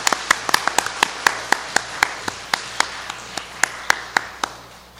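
A short round of warm applause welcoming a speaker at a Christian audience gathering, heard as sparse, distinct hand claps at a fairly steady pace, moderately loud, continuing for about five seconds without anyone speaking.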